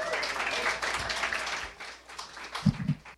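An audience claps and applauds in a dense, steady wash of hand claps that fades toward the end, with a few low thumps near the close.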